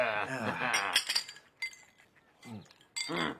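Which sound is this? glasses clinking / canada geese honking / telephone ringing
glasses clinking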